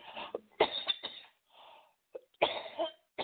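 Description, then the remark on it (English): A person, a smoker, coughs repeatedly in harsh, wet bursts, with a brief breathy pause in the middle before a final cluster of coughs. No speech. “Yeah, I felt that when you were coughing there.”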